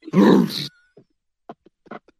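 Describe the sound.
A person imitates a bull's bellow for fans of the XFL team the Brahmas, one loud, rough, low-pitched growl lasting about half a second, followed by a few faint, brief voice sounds.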